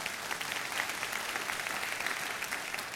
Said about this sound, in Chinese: 把掌声归给神。